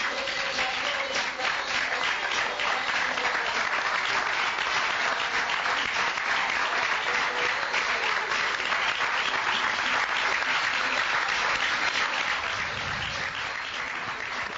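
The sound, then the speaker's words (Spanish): Steady audience applause after a stage play, not a standing ovation, fills the whole stretch: a dense, even patter of many hands clapping at a constant loud level, with no voices rising above it. “No hubo aplausos de pie, si tengo que ceñirme los hechos, pero fue un buen aplauso.”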